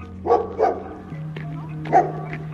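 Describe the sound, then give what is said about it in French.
A black dog barks three times, two quick barks close together, then a pause before a single bark. A steady low hum runs underneath. “Elle est avec un chien noir.”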